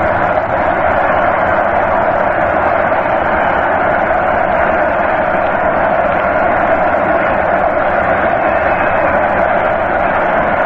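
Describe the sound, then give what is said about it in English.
A large crowd at a baseball stadium roars in a sustained, dense wall of cheering, loud and continuous with no pauses. The cheering follows Medwick leaping at the left-field wall to make a one-handed gloved catch of DiMaggio's long drive in the first game of the series. “Listen to the cheering.”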